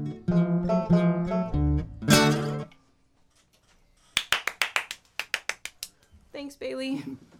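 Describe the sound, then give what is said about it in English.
One person claps about a dozen times in quick, slightly uneven bursts, sharp and fairly loud, between stretches of a voice talking before and after. “I wish that I could multiply my clapping.”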